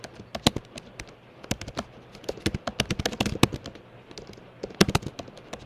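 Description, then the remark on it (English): Rain from a thunderstorm that has just started pelting down in a dense, irregular patter of sharp, crackling taps, clustered in bursts and fairly loud, with no voices and no rumble of thunder standing out. “And we have a thunderstorm that just started during that song, so you might hear some background noise over here.”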